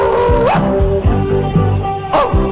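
A large stadium crowd barks like dogs, a dense, loud chorus of rhythmic woofs and yelps rising and falling together over a constant roar, with no clear speech.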